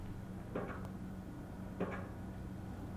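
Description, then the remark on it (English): Two heavy, thudding hammer blows from a pile driver driving a pile down land about a second apart over a steady low mechanical drone, each impact sharp and booming before fading quickly. “Yeah, that's the hammer driving the pile down, see?”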